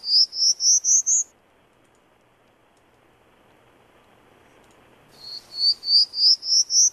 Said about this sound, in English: Yeah, you can really, and I'm just going to go back to the Prairie Warbler for a second. Great, great.